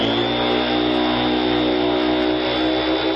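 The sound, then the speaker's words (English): A vacuum cleaner sucking up mud from the floor runs loud and steady, its motor holding a constant whining hum over a broad rushing airflow for the whole stretch, with no voices. “You know, this mud down here is driving me crazy. I got to vacuum it up”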